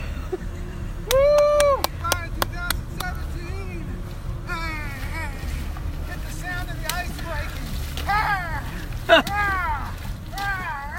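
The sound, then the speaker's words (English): Steady rushing water churns underneath as a person wades very quickly into the partially iced-over New River in Giles County, Virginia, on January 1, 2018, letting out a string of sharp, pitched gasps and strained yelps, some quick and clipped, others drawn out, over the constant low roar. “If you guessed wading into an icy river, you're right.”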